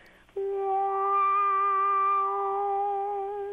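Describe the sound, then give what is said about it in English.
A person imitates the noise their car makes when turning, and sometimes when braking at a light, with one long, steady, musical tone. The voice holds a fairly high pitch for about three seconds at a loud, even level, with no talking. “You're slowing, so you don't begin to hear the noise until you begin to turn.”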